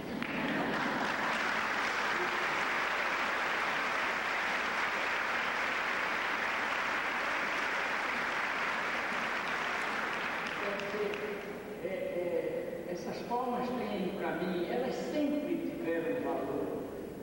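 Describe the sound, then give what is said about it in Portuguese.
Loud, sustained audience applause for educator Paulo Freire fills the first eleven seconds as a dense, steady wash of clapping, then cuts off as a single voice begins speaking. “Mas hoje elas têm muito mais, porque são palmas que se dirigem, que se mandam, que se enviam, são palmas com que se veste o corpo de um cara que não tem poder.”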